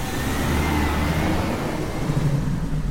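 bus driving away

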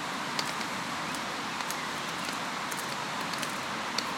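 rain falling outdoors

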